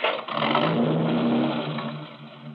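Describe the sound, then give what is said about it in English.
A car engine treated with Wynn's friction proofing starts and roars, holding a loud, steady rev with a low droning hum before easing off slightly near the end, with no voices. “Wynn's friction proofing makes starting easier, eliminates the need for cold engine warm-up”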